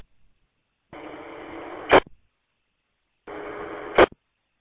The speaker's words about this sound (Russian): Присутствие сигнала я вижу, а модуляцию не наблюдаю. Вот подходите вы уже второй раз, и я слышу сигнал, но не слышу модуляции.